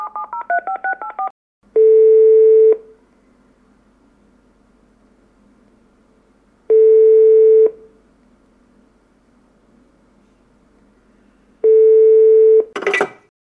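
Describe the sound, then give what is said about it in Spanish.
A quick burst of mobile phone keypad beeps as a number is dialed, then three long, steady ringback tones spaced several seconds apart, ending in an abrupt click as the call connects. “Sacó su móvil y comenzó a marcar.”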